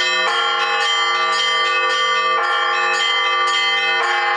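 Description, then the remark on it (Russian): Church bells ring loudly, several bells struck in quick succession so their tones overlap into a continuous, layered peal with no one speaking, rung by trainee bell-ringers learning basic and complex chimes with their instructor at a bell-ringing course in Bataysk. “Вместе с куратором звонари разучивают азы колокольного звона и сложные композиции.”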